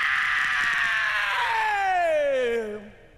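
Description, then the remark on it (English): A rock singer's long, piercing scream holds loud and raw for about three seconds, its pitch sliding steadily downward before breaking off abruptly. “So this one is, of the of course, greatest screams in all the rock and roll.”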